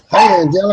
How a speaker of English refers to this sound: I heard that dog.